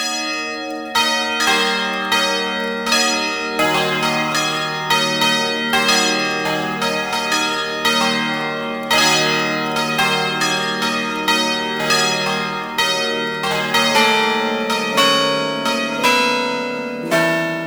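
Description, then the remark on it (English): A swinging church bell peals continuously, with repeated loud strikes in a steady rhythm whose overlapping tones ring on together, full in tone, and no one speaks. “The swinging bell is provided in various sizes and keys of peals, ideal for weddings and other festive celebrations.”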